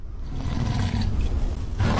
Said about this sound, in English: That's meant to be the sound of a lion roaring as it runs across my screen.